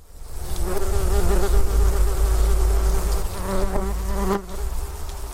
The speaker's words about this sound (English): They are wasps, and they don't have the best reputation. But scientists say we need to learn to love them more because they help counter the huge biodiversity loss we're experiencing.